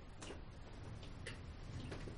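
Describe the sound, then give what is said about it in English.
Faint, sharp clock ticks click out a few times over a low, steady background hum, with no voices present. “The clock is separate from me.”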